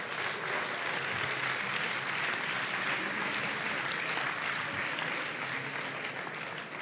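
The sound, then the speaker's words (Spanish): Sustained applause from a sizable audience at the iVoox awards for the nominees in the leisure category, La órbita de Endor, La voz de Horus and Los Danco, fills the whole stretch, a dense, steady patter of many hands clapping at once without any noticeable rise or fade. “Un aplauso para ellos. Un aplauso.”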